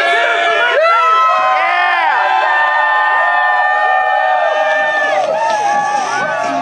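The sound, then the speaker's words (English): A large outdoor protest crowd cheers and shouts continuously as five activists are brought out in handcuffs, many overlapping voices whooping and yelling with no pauses, loud and sustained throughout. “The five activists were brought out in handcuffs to the cheers of the crowd.”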